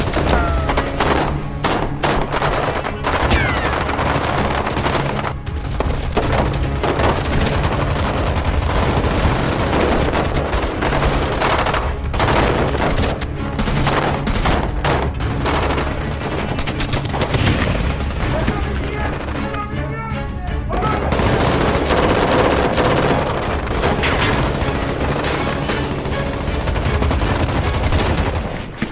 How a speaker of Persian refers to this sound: اردلان هدف میگیره. دیاکو اسلحه رو مسلح میکنه. شلیک میکنه. اردلان هم میزنه. داعشیان به سمتشون شلیک میکنن.